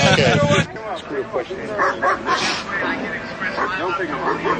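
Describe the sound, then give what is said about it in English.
An angry dog lets out a loud, harsh burst of barking, wanting to attack someone, then keeps going with quieter yips and growly whines for several seconds. “He's real pissed off about it. He wants to attack you.”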